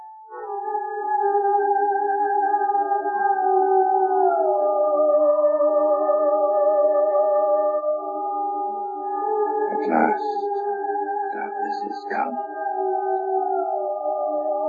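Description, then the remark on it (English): Dogs howl together in long, sustained, wavering tones that overlap without pause, fairly loud and steady throughout, with a few brief sharp knocks near the end. “Why do they keep howling like that, Pop?”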